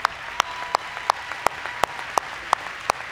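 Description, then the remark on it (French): An audience that has stood up to salute claps in steady unison, about nine sharp, evenly spaced claps over a soft bed of crowd noise, with no voices standing out. “L'audience s'est levée pour saluer et applaudir.”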